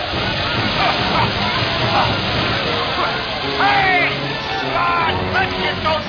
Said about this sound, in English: They're taking down the hoses and dragging them towards the lab. It looks as if they may put water on the lab. Yes, ladies and gentlemen, they are definitely shooting water all over the lab.